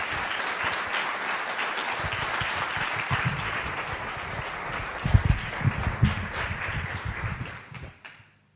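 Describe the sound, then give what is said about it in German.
A crowd applauds steadily for several seconds for the third-prize winner at a film competition award ceremony, a dense wash of many hands clapping with a few louder individual claps standing out, before it quickly fades out. “Das ist nochmal Ihr Applaus.”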